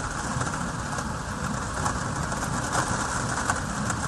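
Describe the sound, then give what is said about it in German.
A steady heavy rain shower drums and patters on plexiglass covers, heard from inside a dry basement beneath them while it pours outside, a dense continuous hiss with scattered sharper taps and no voices. “Und jetzt bin ich im Keller herunter und ihr hört jetzt mal einen heftigen Regenschauer auf meine Plexiglasabdeckungen prasseln. So hört sich das also an.”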